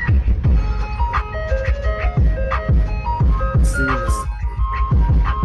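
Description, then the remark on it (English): A loud ice cream truck jingle with a thumping beat plays as the truck drives through a neighborhood, melodic tones over heavy rhythmic bass hits, with no one talking. “So the video is an ice cream truck driving through the hood with the pretty cool beat, I think.”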